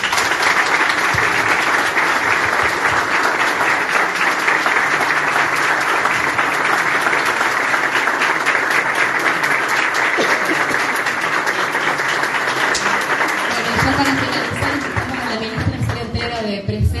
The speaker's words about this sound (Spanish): A las nuevas autoridades del hospital. Ponemos un fuerte aplauso también a los asistentes.